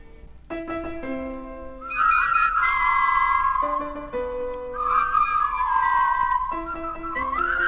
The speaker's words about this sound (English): For their opening selection, the Whispering Yeast All-Animal Whistling Chorus joins Maestro Urpil Sweeney in a rousing salute to reality.